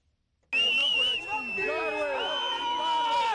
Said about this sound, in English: Cheering crowds raced through the streets of Harare as news spread that President Robert Mugabe had resigned after nearly four decades in power.